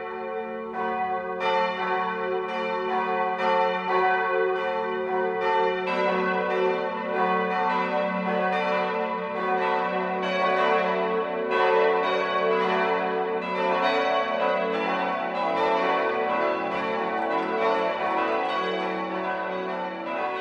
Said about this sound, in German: Es ist 12 Uhr. Das Mittagsläuten kommt heute aus der katholischen Pfarrkirche St. Bartholomäus in Deisenhofen.